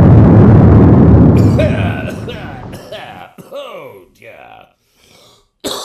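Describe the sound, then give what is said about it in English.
A loud blast erupts and rumbles heavily for a couple of seconds before fading, followed by strained, groaning voices in the quiet aftermath. “It would take more than an explosion to kill me.”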